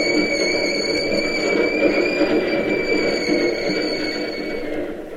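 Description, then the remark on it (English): A Key System commuter train comes down the ramp from the Bay Bridge and rolls steadily into the terminal, with a loud, continuous rumble and a high, sustained metallic wheel squeal that hangs over the noise and eases slightly toward the end. “Sure, one of the key system trains. It's going into the terminal. Listen to it.”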